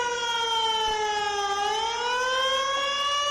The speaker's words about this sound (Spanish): Imagínate despertarte con este sonido a las 2 de la madrugada, más aún si estas sirenas, como es el caso, suenan en Sant Llorenç, donde una riada acababa con 13 vidas hace justo 3 años.